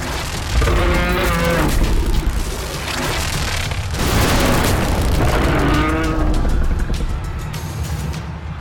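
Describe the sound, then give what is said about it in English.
A monstrous creature with beady red eyes and boils across its body leaps out of a building onto a bystander: a deep, drawn-out bellowing roar sounds twice, each call wavering and harmonic, over a constant loud rumbling wash of noise, as more creatures pour out. “teeth, beady red eyes, skin stretched over top of it, boils everywhere across its body as it leaps out of a building and down onto a bystander and lets out a bellowing roar as more pour out.”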